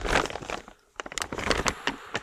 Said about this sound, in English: Buy plastic bag that makes too much noise.